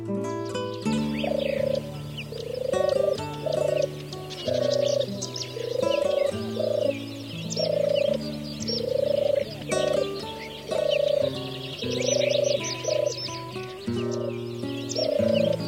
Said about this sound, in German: Das war die Turteltaube.